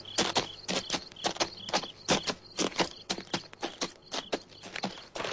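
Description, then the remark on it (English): Horse hooves clip-clop at a steady walking pace, fairly loud, with a faint high-pitched chirping hum running underneath. No one speaks. “All right, my good horse. There's water somewhere.”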